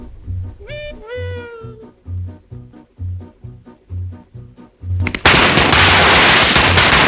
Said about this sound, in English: He now has a long strip of firecrackers which he lights from the cigarette.